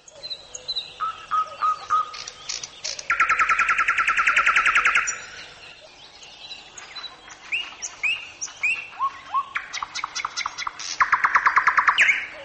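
A nightingale sings alone for a female in varied phrases: clear rising whistles, short chirps and two loud bursts of rapid, buzzing trills, with brief pauses between phrases.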